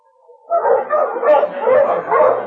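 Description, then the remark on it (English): Several sled dogs bark and yip together in a loud, continuous overlapping chorus at a dog-pulling elimination contest on a clear, cold day, each dog in turn harnessed to a weighted sled, with crowds by a roped-off area. The barking starts after a brief quiet moment and carries on without pause to the end. “Crowds jammed close to the roped-off area, where each dog in turn was harnessed to a weighted sled.”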